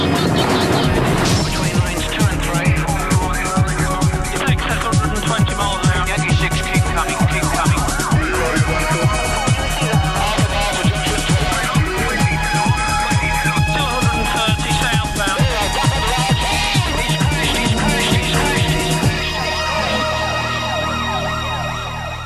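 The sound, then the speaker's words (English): A loud, driving TV police show theme tune with a steady pounding beat and wailing siren-like tones, playing continuously before ending in a brief sustained fade. “So another TV theme that I grew up with was Police Camera Action.”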